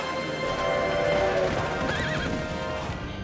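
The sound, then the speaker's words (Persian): A horse lets out a loud, wavering whinny with shaky, rising and falling pitch, over a steady bed of clip-clopping hooves and rumbling background noise, with no talking. “اسبم از کار افتاد.”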